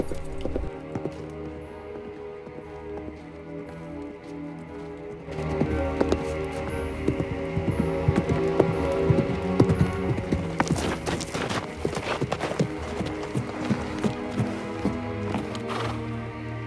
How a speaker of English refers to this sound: A figure on a white horse gallops through a forest towards the magician's house.